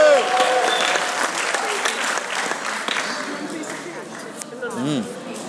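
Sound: audience applause and cheering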